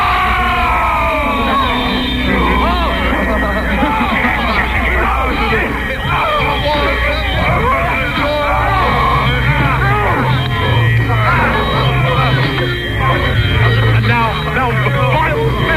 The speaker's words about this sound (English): Off in the theatre, and the audience is getting very angry. They're shouting, yes, and things are flying about.